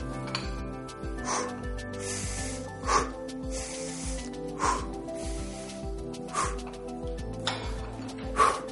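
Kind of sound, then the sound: human body sound, rapid heavy breathing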